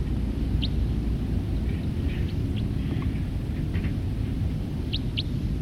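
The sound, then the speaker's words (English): A handful of thin, high bird flight calls, brief chips scattered irregularly and fairly faint, over a constant low rumbling background. “Calls of that bird.”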